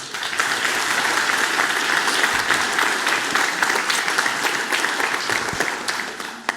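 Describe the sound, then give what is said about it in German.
An audience applauds steadily for several seconds to welcome a speaker giving a talk on Vim and NeoVim, a dense wash of clapping hands that holds at a fairly loud, even level before thinning slightly at the end. “Einen Applaus für”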